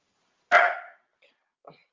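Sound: puppy barking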